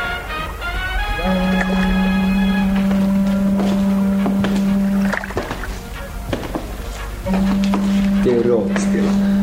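A departing ship sounds two long, deep, steady horn blasts, the first lasting several seconds and the second starting after a short gap, over scattered clatter and harbor bustle.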